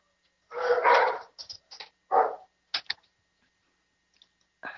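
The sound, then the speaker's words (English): Wolf dogs bark in a quick, excited burst of several loud yelps and woofs, then a few shorter sharp barks trailing off into brief quiet. “Sorry, my wolf dogs are excited about something.”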